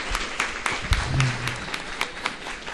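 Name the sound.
round of applause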